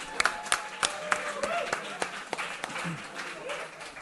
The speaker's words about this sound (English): So we're going to kick things off. Are you guys ready? Let's make a round of applause for the best comic books of the year.